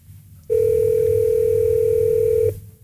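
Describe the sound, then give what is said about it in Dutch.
A phone line gives one steady, mid-pitched electronic tone, loud and unbroken for about two seconds, over a low rumbling hum, then cuts off, as a radio presenter at 449 Radio phones a listener. “Ik zal natuurlijk het nummer niet zeggen, hè?”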